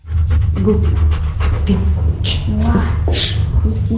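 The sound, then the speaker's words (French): A long-haired black retriever pants steadily, quick rhythmic breaths repeating over a low, continuous rumble, with faint voices murmuring in the background, as it sits on large red cushions in the youth section of Lithuania's National Library, listening to a child read aloud. “le rétriever au long poil noir se pose à côté de lui sur de gros coussins rouges et écoute patiemment l'histoire”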